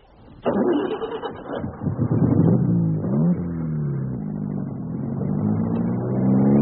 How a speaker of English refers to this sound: Lost that line of cars, thank God.